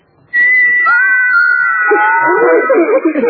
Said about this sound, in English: These little carved figures can whistle.